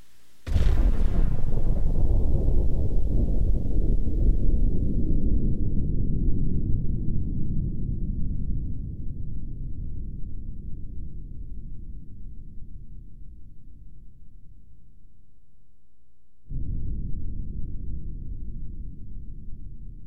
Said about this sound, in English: And hear the sound of an atmospheric atomic explosion.